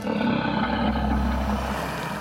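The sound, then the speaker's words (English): A low, guttural purr from a large beast in a cave, a continuous deep rumbling growl with a rough, vibrating texture, steady and fairly loud for about two seconds with no talking. “There was a horrible squelch, the sound of teeth ripping flesh, then a low, guttural purr.”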